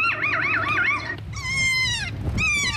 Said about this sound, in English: Two birds that weren't playing at all, and there was no play anywhere else, just start playing with one another. Here, playing a recorded call has exactly that impact on two adult birds.